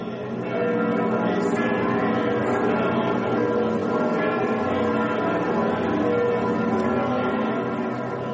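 church bells ringing

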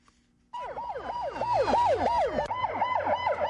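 ambulance sirens wailing

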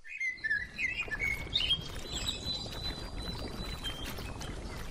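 birds singing

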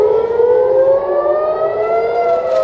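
air raid siren blaring

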